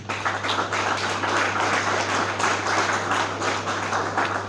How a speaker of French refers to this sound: Merci à tous mes membres d'honneur qui ont accepté sans hésitation de m'accompagner dans cette aventure. Certains sont présents et je vais juste vous demander d'applaudir très fort pour vous.